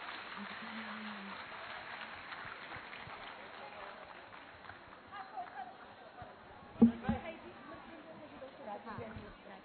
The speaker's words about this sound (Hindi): आप सबको अच्छा लगा होगा तो एक बार और ताली बजाएंगे, क्योंकि कहते हैं बाग में माली और सभा में ताली ना हो तो मजा ही नहीं आता, तो बजाए जो जोरदार ताली।